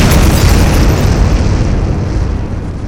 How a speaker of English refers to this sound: The monster moves in, picks up the yellow Shogun, and throws it down through the Capitol building. It crumbles in a cloud of smoke.